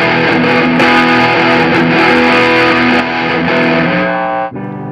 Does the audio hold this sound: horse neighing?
no